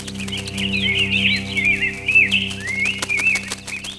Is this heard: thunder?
no